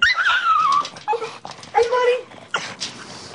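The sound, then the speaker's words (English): A French bulldog and a young pug puppy whimpering: several high, wavering whines that slide up and down in pitch, broken by short gaps and a few sharper yips, fairly loud. “It's a French bulldog and a pug puppy.”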